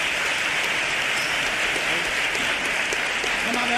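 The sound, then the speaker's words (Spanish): Steady, dense audience applause fills the whole stretch, a loud continuous wash of many hands clapping at once, with faint voices and a whistle or shout poking through near the end. “¡Un aplauso!”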